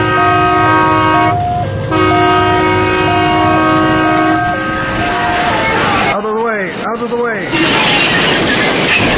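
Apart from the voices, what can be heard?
train on the rails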